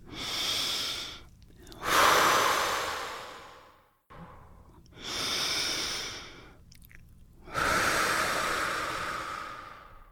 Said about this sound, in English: And let's just take a couple of breaths right now.